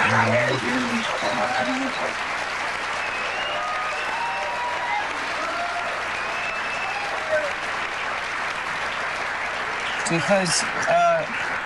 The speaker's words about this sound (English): And I'm really grateful that the audience here is recovering alcoholics and addicts. First of all, because I'm always, yeah, give yourselves an applause.